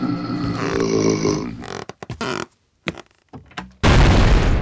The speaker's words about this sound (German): Ich glaube, die Quizhexe ist explodiert. Explodiert? Ja, was heißt das? Ja gut, Sachen können schon mal explodieren.